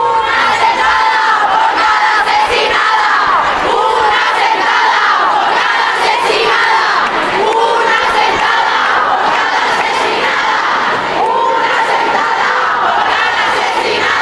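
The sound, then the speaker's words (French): A huge crowd of marchers at a women's rights protest march chants and shouts together in a loud, continuous roar, voices rising and falling in rhythmic waves with no pause across the whole stretch. “Parmi la foule immense, on a retrouvé, pêle-mêle, des drapeaux palestiniens, des slogans contre les violences conjugales, des pancartes Black Lives Matter, des banderoles pour le droit inconditionnel à l'IVG”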